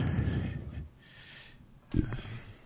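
Heavy, ragged breathing rushes through a distorted phone line, noisy, with a softer airy exhale in the middle and another harsh burst of breath near the end.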